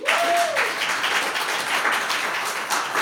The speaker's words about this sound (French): Entrer en sa présence avec des cris de joie. Peux-tu l'entendre? Bon. Des chants joyeux, on a déjà fait. Des acclamations.